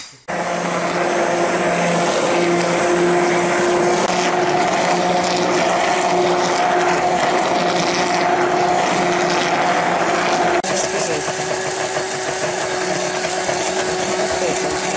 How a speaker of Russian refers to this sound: А здесь очень хороший миксер, да, и он взбивается сразу.